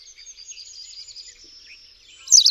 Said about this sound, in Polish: Głos kontaktowy pliszki siwej to żywe, jednosylabowe ćwierkanie.